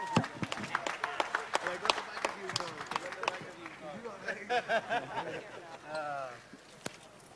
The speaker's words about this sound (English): Big round of applause for two classy, classy gentlemen.